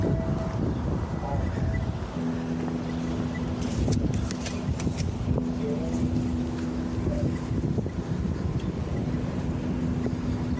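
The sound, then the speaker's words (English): Steady wind buffets the microphone with a low, rumbling roar, joined by a droning engine hum and faint scattered voices in the background, loud and continuous throughout. “Windy.”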